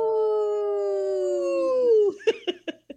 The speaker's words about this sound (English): Love that one. The last time it happened, I missed it. I didn't know it was happening. That was a good howl today. Thank you for that.